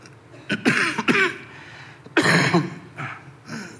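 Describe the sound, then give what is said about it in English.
Someone coughs hard several times in quick bursts while holding a handheld microphone, a harsh coughing fit with short pauses between the spasms and a final throat-clearing cough, with no talking. “It's good to have this handheld mic when you have a coughing fit.”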